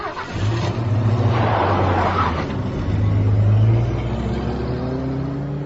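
A large SUV's engine hums, then revs with rising pitch as it pulls away with two people aboard and accelerates, the motor staying loud and steady throughout with no voices.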